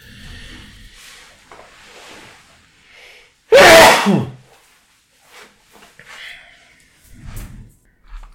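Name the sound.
sneeze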